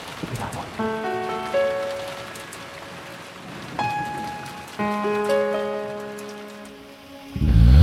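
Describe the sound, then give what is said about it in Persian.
Steady rain patters on a surface throughout, blended with soft sustained musical chords that swell in at intervals, and a low rumble rises at the very end. “من تنهای تنها، من تنها و بارون، من تنها با عشقت توی نم نم بارون.”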